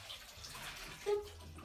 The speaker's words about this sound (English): A little splash? Okay, hold on. Well, how do I, where's the thing for a little splash?